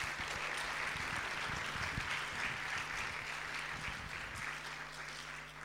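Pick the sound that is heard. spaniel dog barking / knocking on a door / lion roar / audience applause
audience applause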